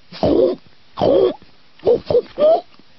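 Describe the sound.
A woman's voice imitates a pig with five rough, throaty grunts, two longer snorts followed by three quicker, shorter ones, loud and alone with silence between.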